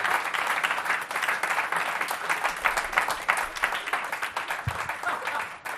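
Sustained audience applause for all the panellists of the evening's show, a dense crackle of many hands clapping at steady volume for several seconds, with no one speaking over it.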